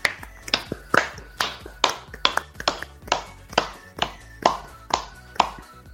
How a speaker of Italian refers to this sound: Ma direi che comunque io ringrazierei anche tutti i nostri spettatori che ci hanno seguito questa sera, perché sono 5 all'una e siete comunque ancora tantissimi, e quindi un bel applauso, ve lo meritate.